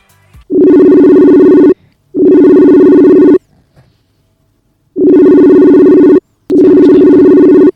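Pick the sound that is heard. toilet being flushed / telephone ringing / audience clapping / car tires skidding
telephone ringing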